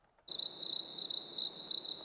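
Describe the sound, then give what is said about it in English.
Crickets chirp in a steady, high-pitched trill that begins abruptly after a brief silence, continuing evenly over a soft background hiss with no voices; a sparse crickets sound effect with a wide stereo feel. “This has got a nice stereo feel, but it's kind of sparse. And this sounds like the same crickets”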